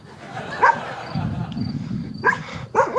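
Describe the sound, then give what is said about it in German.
A few short, sharp dog barks ring out at intervals over a steady low rumble, with a quieter pause between the bursts. “Schau, die Hunde.”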